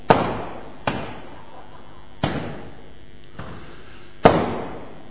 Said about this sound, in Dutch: Laat ze maar knallen buiten met kunstlicht.